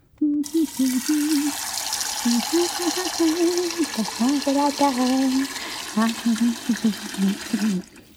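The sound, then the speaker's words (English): Water pours steadily from a tap into a pot, filling it with water to boil for a stew, for about eight seconds: a continuous rushing hiss, with a voice murmuring or humming over it throughout. “Oh, to make a stew, you must first boil the water.”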